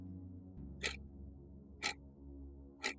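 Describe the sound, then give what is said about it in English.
A clock ticks three times, once per second, each tick sharp and distinct over a low, steady droning music bed. “But right now, for the Slender Man stabbings, When Death Imitates Art, let's start the clock.”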